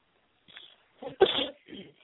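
A single sharp sneeze, fairly loud, preceded by a quick breathy intake and followed by a softer exhale, with no talking.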